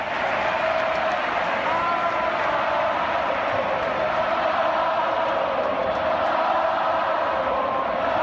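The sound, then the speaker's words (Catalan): A big crowd of Madrid fans roars and applauds in an ovation for Navarro, the Barcelona captain, a steady, dense wash of cheering and clapping that holds at full strength for the entire stretch, with no single voice standing out. “Doncs l'ovació que podeu escoltar de fons que ahir es van donar Navarro de l'afició de Madrid, de l'afició del Within Center, ho diu tot de la trajectòria de l'eter capità blaugrana.”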